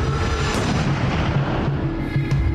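Gunfire amid a dense, steady low rumble that holds at an even loudness throughout, with a few faint sharper cracks in the noise and no voices.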